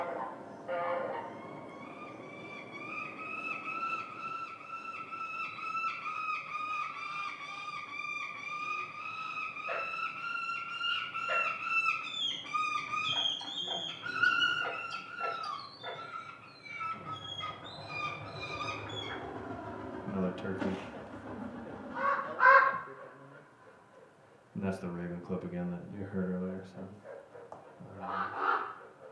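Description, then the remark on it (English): A pair of hawks calling repeatedly as they swoop past, their shrill, drawn-out cries overlapping and rising and falling, with a louder burst of calls near the end. “It's a Swainson's hawk, or it may be a different kind of hawk.”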